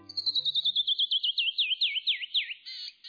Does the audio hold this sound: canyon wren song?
yes